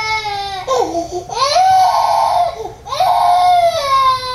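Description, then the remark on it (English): A baby screams and cries in loud, high-pitched wails, several long sustained cries that rise and fall with brief catches of breath between them, with no talking. “Yeah, they're gonna need some practice on how to handle all the screaming and crying.”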